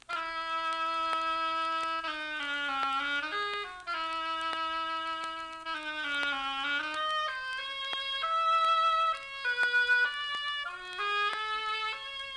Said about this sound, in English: My dear children, young and old, each character of this tale is represented by an instrument in the orchestra. The bird by a flute. The duck by an oboe.